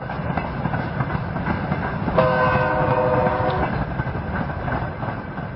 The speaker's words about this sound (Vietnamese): Càng về khuya, tiếng gập ghềnh con tàu, tiếng bánh xe nghiến trên đường sắt càng vang rõ. Tiếng còi tàu xé màn đêm u tịch như trêu chọc, đánh thức thiên nhiên đang yên ngủ.